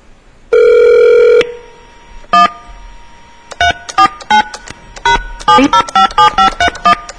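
A long steady phone tone sounds, followed by a rapid series of short keypad dialing beeps in an irregular rhythm, clear, with no voices, as someone dials in to check phone messages.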